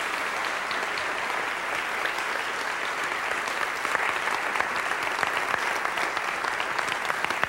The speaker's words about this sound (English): It's Mother Teresa, and you should applaud because she deserves that. Thank you.